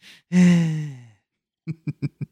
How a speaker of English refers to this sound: I'm going to breathe in, heavy breathing, whatever I want to do.